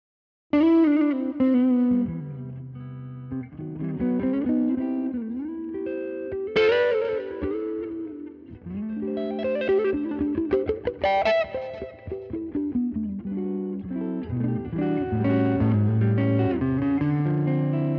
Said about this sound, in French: Bon, alors là, du son clair. Du son clair, avec un petit delay, une petite réverb.